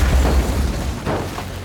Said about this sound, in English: Seal powers up the grassy runway. He's going as fast as he can, but he's struggling to produce enough momentum to get this hunk of metal off the ground. He's running out of runway. The plane veers off the runway and crashes.